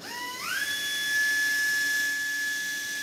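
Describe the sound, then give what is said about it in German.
A high-pitched surgical drill spins up quickly and then holds a steady, piercing whine throughout, loud, with no voices, as it bores a 1.4 mm hole into the bone of a joint socket for a small suture anchor during arthroscopic surgery. “Und die bohrt jetzt in die Gelenkpfanne, in den Knochen davon, den Anker ein, damit wir eine feste Struktur haben und den Faden befestigt haben, mit dem wir die Gelenklippe wieder annähen.”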